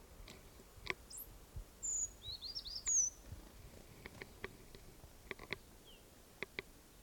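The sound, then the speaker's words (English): A few thin, high-pitched bird alarm calls, a 'toop' given by one bird of a flock, ring out amid faint outdoor ambience, with scattered soft ticking sounds around them; the calls are fairly quiet, with no one talking. “There was a toop there, or alarm call, by one of the birds.”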